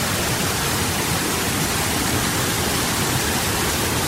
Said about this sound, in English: I hope you can hear that. It's pretty loud here. It's a bit of some rapids in this river.